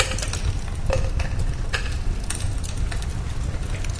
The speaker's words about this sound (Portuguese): E aí, numa coqueteleira, nós colocamos mais a mesma porção de gelo.